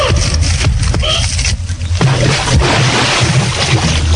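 A loud splash of water into a pool with churning, sloshing noise throughout, building to a heavier plunge midway and then continuing as a steady rushing wash. No one speaks.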